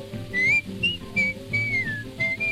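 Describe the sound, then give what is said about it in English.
Someone whistles a bright, bouncy melody in short rising and falling phrases, clear, over a light instrumental accompaniment. “….”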